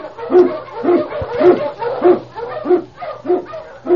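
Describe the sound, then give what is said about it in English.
King, an Eskimo lead sled dog in the Yukon, barks over and over in a steady, quick rhythm, about seven sharp barks in a row, fairly loud, with a low constant hum underneath. “King, the swiftest, strongest of Eskimo lead dogs, blazes the trail through storm and snow for Sergeant Preston as he meets the challenge of the Yukon.”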